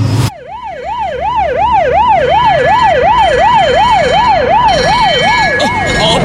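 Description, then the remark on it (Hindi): A loud ambulance siren, called for a man who has had a heart attack, wails continuously, its pitch sweeping rapidly up and down in a steady rhythmic yelp, with low road rumble underneath and no talking. “Arjuna, call the ambulance now.”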